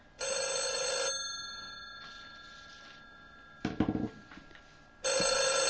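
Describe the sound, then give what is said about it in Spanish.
A telephone bell rings loudly in a long, buzzing burst on a call to the Telefónica customer service line, falls quiet for a few seconds, with a brief clatter in the gap, then starts ringing again. “Este es el teléfono de atención al cliente de Telefónica.”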